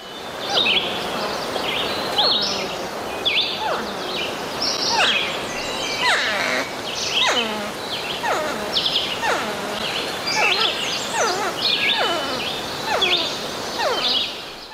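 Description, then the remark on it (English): Porcupines vocalizing: a steady stream of high, squeaky whines and cries, many sliding downward in pitch, overlapping one another over a faint rustling background with no talking. “And then the next one is of some porcupines vocalizing in, I think, the manner that Nicholas was talking about.”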